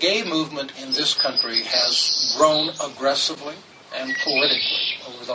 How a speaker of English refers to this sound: There's a bird in the background doing the sound.